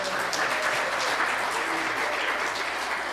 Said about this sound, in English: Excellent. Everyone, a round of applause. We did great.